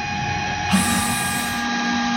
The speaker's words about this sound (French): Pas très agréable à écouter, mais c'est ce qu'on pourrait appeler la chasse d'eau, parce qu'en fait, cet enclos sert de toilette aux vaches.